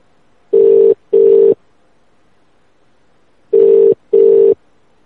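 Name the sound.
telephone dialing and ringing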